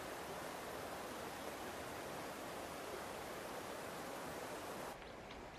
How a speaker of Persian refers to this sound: دوروبر روستا پر از آبشارهای کوچیک و بزرگه. معروف ترینشون هم آبشار باغ شیخ عمره.